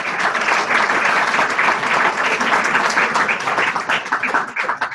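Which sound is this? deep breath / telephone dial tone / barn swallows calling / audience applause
audience applause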